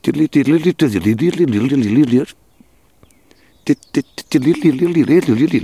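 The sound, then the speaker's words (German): A person whistles or hums a rapid, warbling imitation of a dunnock's song, two fluttering melodic phrases separated by a brief pause, fairly loud. “Es ist so leicht fisselig, melodisch, schnell. Ungefähr so.”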